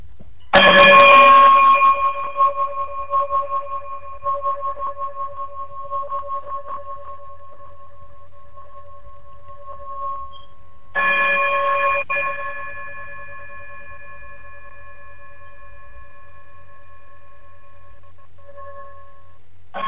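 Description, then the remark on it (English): A bright, high-pitched bell chime rings out with a sharp strike, then sustains and slowly fades; a second softer strike follows midway and rings on into a long, lingering decay. No voices. “if you would be so kind to chime us out. Hit us with that high frequency”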